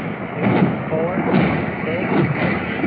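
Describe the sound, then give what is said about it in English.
Several rocket explosions from an aircraft rocket attack thud dully through a steady rumbling wash of noise, muffled booms arriving every second or so, with faint voices underneath. “Let's hear how many explosions we hear.”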